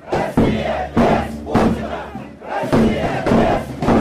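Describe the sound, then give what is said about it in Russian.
A large crowd of participants ranging from pensioners to students chants in unison at a street protest rally in the busiest part of a city, full of tourists. Loud, rhythmic bursts of shouted voices repeat a short slogan roughly every half second, with no single speaker standing out. “Люди сбегались из соседних переулков, выскакивали из торговых центров, чтобы запечатлеть события на мобильные телефоны и фотоаппараты.”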